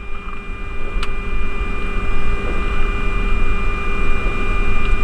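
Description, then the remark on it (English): A steady, dense engine drone holds throughout, with a constant low rumble and faint high tonal whine, like aircraft engines idling, all engines at idle after the engine start checklist is complete; one brief sharp tick cuts through near the start. “All engines are idle, engine start checklist complete.”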